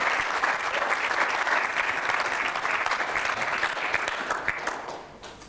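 An audience claps steadily for about five seconds for a woman as she goes back to her seat, a dense, crackling wash of many hands that holds level before thinning out and fading at the end.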